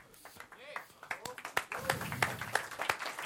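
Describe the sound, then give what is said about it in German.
An audience claps in a quick scatter of sharp, uneven hand claps that build into steady applause, with voices chattering underneath, after an award is presented on stage. “Zu Recht der Applaus.”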